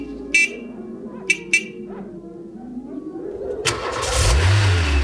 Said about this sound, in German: ich habe ein Auto gefunden und zum Laufen gebracht.